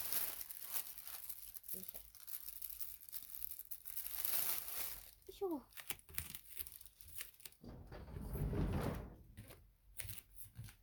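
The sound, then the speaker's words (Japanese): A plastic bag is crumpled and handled while tidying up, to be thrown away, with bursts of crinkling and rustling that swell and fade over several seconds, plus a few soft knocks of things being moved. “もうこのビニール袋もぽいかな。”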